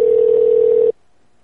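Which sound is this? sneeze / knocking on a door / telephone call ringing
telephone call ringing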